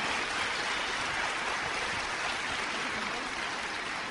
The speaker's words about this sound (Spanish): Date un aplauso por eso. Date un aplauso. Sí.